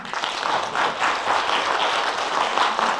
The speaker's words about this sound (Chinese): 好，我们感谢大家，请鼓掌。